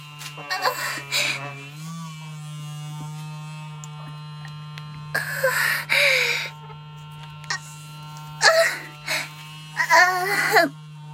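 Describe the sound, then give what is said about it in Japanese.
A powerful electric massager, used over clothing and pajamas, hums in a steady, low-pitched buzz for the whole stretch, its pitch nudging up slightly early on, while short bursts of breathy vocal sounds come and go over it. “とりあえず服の上から、もうやっぱり強力電魔だね。”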